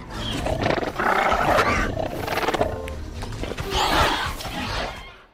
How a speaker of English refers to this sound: ultimately, what we ended up using were mostly penguins, Gentoo penguins. They do this sort of chuttering and these softer, cuter sounds that we were able to manipulate and make the raptors more friendly.